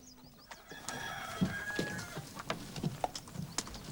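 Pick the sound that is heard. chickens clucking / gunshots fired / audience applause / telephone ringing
chickens clucking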